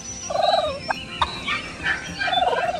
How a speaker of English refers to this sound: This week on Discover Nature, listen for wild turkeys gobbling in Missouri's woods and grasslands. This popular game bird, once a contender for our national bird, makes many other vocal sounds as well.